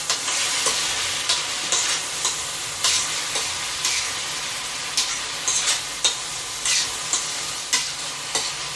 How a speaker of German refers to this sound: Und wenn dann das Fleisch eingebraten ist, nach 3 Minuten, wenn jetzt der Timer klingelt, dann mache ich es raus in eine Glasschüssel und hebe es auf bis zum Ende.